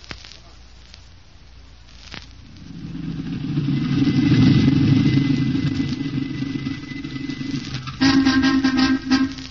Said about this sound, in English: Shut off the engine.